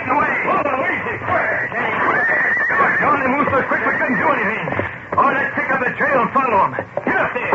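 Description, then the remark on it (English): Several horses plunge about, squealing and bucking, neighing almost nonstop in a loud commotion, their shrill whinnies rising and falling over one another with only a brief lull near the end. “Their own horses plunged about, squealing and bucking.”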